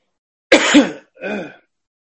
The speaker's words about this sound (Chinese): 咳嗽了一下